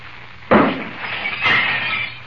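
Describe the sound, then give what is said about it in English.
A glass pitcher, hit by a shot from a small radium-powered cannon, shatters with a sudden loud crash, followed by a second burst and a lingering high, tinkling spray of fragments scattering and settling. “The pitcher explodes into a million fragments.”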